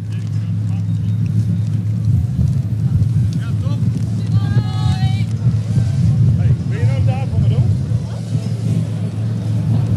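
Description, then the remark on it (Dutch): A steady, loud, low rumble from an engine still running somewhere continues throughout, constant, with harmonic voice traces and outdoor noise layered above it. “Volgens mij staat er nog een motor aan ergens, of niet?”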